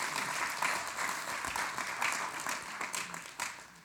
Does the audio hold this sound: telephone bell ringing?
no